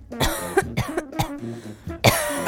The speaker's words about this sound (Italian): No, c'avevo un po' di tosse.